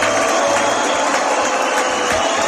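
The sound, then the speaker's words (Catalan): A large crowd at an event in the Gran Teatre del Liceu, celebrating 30 years of the Escola de Músics del Raval, greets the new mayor with a dense, continuous wash of noise: shrill whistling mixed with clapping and a general roar, loud and unbroken throughout. “El van rebre alhora amb xiulets, però també amb aplaudiments.”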